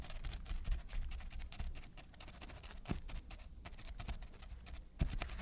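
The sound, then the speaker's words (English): Rapid, light tapping of pencils drummed on a surface without sand, a continuous scattered patter of small clicks imitating the sound of a crab's legs walking on a beach. “he once had to create the sound of a crab walking on the beach, which he did by drumming pencils in a sandbox.”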